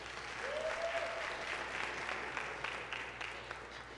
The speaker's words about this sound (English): Can you clap for them? Praise God.